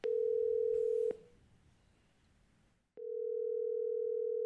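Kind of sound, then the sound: signal or alarm, telephone dial tone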